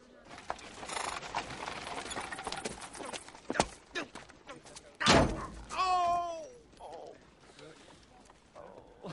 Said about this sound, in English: I just love that donkey.